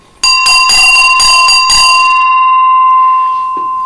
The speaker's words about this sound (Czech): To je mimochodem krásný ručně ukovaný zvon, který jsem dostal od jedné milé dámy, od mé divačky, který vyrobil její syn, umělecký kovář.